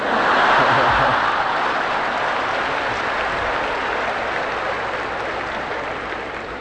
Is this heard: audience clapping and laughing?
yes